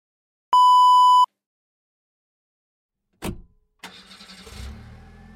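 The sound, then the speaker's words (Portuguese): A short electronic beep, then a sharp thump, and a car engine cranks to life and settles into a steady rumbling idle with no one speaking. “Pai, sabe tão bem ir de carro para casa.”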